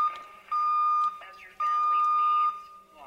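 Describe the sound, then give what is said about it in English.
A radio receiver's deviation alarm, set off by a signal deviating on the 10.7 IF, sounds in two long, steady electronic beeps at one pitch, after a brief first chirp, over faint radio hiss and murmuring voices. “There's that deviation alarm again.”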